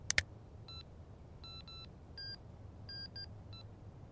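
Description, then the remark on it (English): A quick series of about seven short, thin electronic keypad beeps at uneven intervals as a number is dialed on a phone, heard over a low, steady rumble after a sharp click. “Grab my phone and call”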